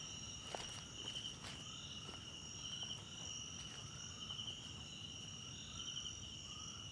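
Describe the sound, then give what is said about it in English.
A steady run of footsteps crunches along at a brisk pace, growing quicker and longer, against a constant shrill chorus of crickets, with no voices, outdoors at night as clouds cover the moon. “Footsteps get quicker and longer as the night gets darker and the clouds cover the lunar beams.”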